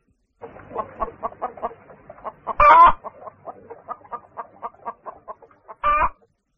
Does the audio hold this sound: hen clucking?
yes